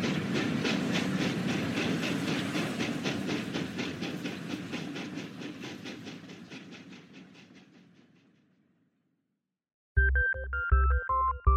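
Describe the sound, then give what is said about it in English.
A steam train chugs along the rails in a steady, rapid rhythm that gradually fades away, followed by silence and then a brief burst of bright, tonal notes. “Happy at having left the grim, dark mountains behind, he puffed through the darkening evening to the great city of Smoke Overall.”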